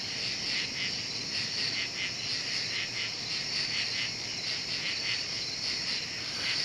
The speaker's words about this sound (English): And from August 2005, from my parents' backyard in Illinois, at about 3:30 in the morning, crickets.